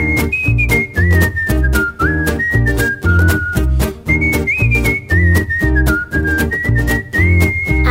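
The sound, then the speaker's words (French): Someone whistles a breezy, meandering tune, clear and up front, over a steady, punchy rhythmic backing with a regular beat, with no voices. “Non, si, siffler l'air de rien.”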